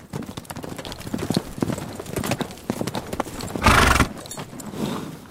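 Horse hooves clip-clop in a steady rhythm, fairly loud, and a horse gives a short whinny partway through before the hoofbeats carry on.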